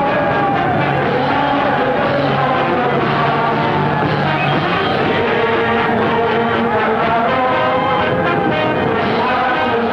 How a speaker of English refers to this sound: Troop ship is towed to its berth. An enthusiastic crowd is waiting to welcome the men back.